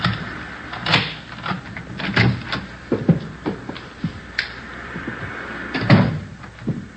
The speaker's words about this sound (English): This one here. There's a front door key. See if you can work it. Well, I know how it works. You go ahead and open it. All right.